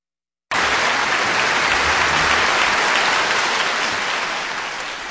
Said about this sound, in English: Applause for the great cellist Jacqueline Dupre, recorded with the Cleveland Orchestra led by Daniel Barenboim on Kansas Public Radio with a performance of Edouard Lalot's Cello Concerto in D minor.